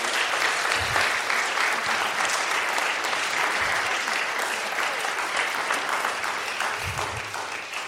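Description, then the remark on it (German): A church audience claps loudly and steadily to welcome a newcomer, many hands together in a dense, bright wash of applause that holds for several seconds and eases slightly toward the end. “nochmal ganz herzlich willkommen heißen, indem wir mal ganz kräftig klatschen und uns einfach freuen, dass er jetzt mit dabei ist hier.”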